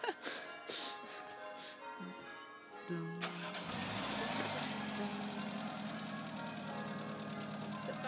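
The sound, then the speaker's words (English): A car engine turns over and catches, then rumbles steadily and loudly for several seconds, following a few moments of faint, indistinct background voices. “You're anticipating a car.”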